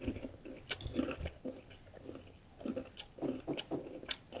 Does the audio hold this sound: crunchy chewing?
yes